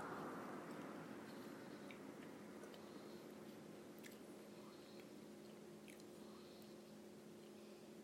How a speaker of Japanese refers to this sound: まあ、私の噛む音だけが鳴り響いてる